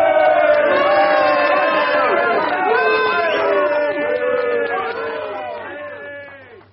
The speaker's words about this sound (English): Who was booing? Only the bloody trots. Just sour grapes, that's all.